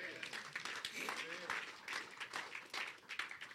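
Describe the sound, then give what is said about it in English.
A church audience claps steadily for the Lord Jesus for a few seconds, the dense crackle of many hands mixed with scattered voices calling out over it. “Clap for the Lord Jesus.”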